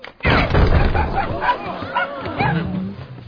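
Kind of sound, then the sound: animal, puppy barking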